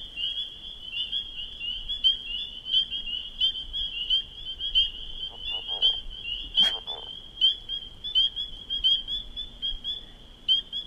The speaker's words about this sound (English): You hear louder peeps. Oh, and there was a leopard frog again, but louder peeps is individual peepers giving a nice clear single note.